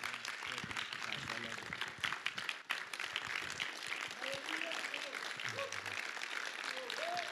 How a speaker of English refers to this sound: Praise the Lord. Well, I know that that applaud is for Jesus.